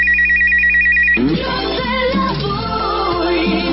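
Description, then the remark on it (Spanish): A telephone rings with a loud, rapidly pulsing electronic trill for about a second, then cuts off abruptly into a dense wash of busy background sound. “Contesta rápido tu teléfono porque son tus amigotes.”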